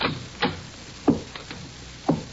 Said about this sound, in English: Those are the footsteps that could be heard as President Wilson walked in the so-called Lincoln Study on an evening in the spring of 1917.